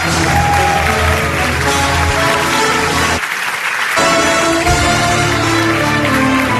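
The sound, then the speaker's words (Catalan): Loud, sustained applause from a large audience welcoming a performer, a dense wash of clapping that briefly thins for a moment before surging back just as strong. “Ben fort aquest aplaudiment.”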